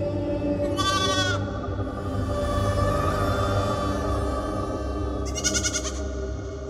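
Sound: sheep bleating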